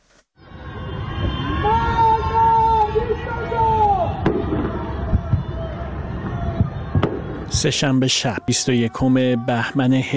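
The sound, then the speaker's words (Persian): Several voices shout drawn-out anti-government slogans from the windows of darkened homes into the night over a constant low rumble, then a rapid string of sharp, loud pops and bangs from a government fireworks display takes over the final seconds. “21 بهمن 1404، جرقه های آتشبازی حکومت میخندند، اما از پنجره های تاریک خانه ها فریاد های ضد حکومتی در دل شب پراکنده میشوند.”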